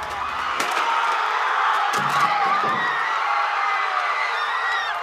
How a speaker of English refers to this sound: I was standing just east of the statue when I heard the crowd yell pull and heard it crack off its hinges and hit the ground with a thud.